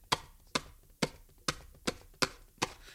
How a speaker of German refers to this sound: Bin ich doof, dann wähle ich jetzt nochmal. Das sind die Tasten von meinem Telefon, könnt ihr es hören?